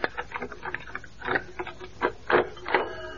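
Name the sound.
alarm clock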